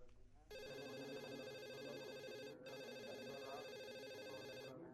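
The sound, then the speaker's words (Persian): A telephone rings loudly and continuously with a bright, buzzing electronic tone, pausing briefly midway before ringing again. Faint background sounds sit underneath. “اجازه بده که من تلفن جواب بدم.”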